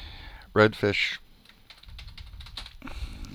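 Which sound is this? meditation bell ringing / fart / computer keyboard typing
computer keyboard typing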